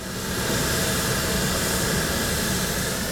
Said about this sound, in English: A plane from the runway at a still position reads levels around 65 decibels, but when it begins to take off, it peaks at 91 decibels